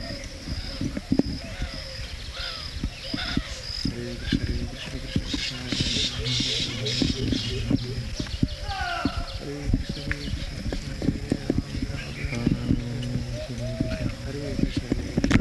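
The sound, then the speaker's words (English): A colony of baya weaver birds chatters and chirps continuously in the background, while voices talk over it and a steady clopping rhythm runs beneath. “It's a colony of birds.”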